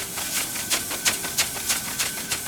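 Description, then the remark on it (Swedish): Steam hisses steadily from a small spinning metal ball on a stand over a fire, water boiling inside and steam forced out through two small bent pipes, the airy rush swelling in quick, regular pulses about three times a second as the jets whirl past, with no voices. “När elden hettar upp metallen börjar vattnet koka. Ånga pressas ut genom rören och kulan börjar snurra.”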